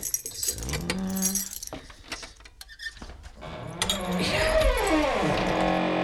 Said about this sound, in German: Ja, das geht nicht. Da muss eben wieder der Dietrich herhalten. Wartet mal.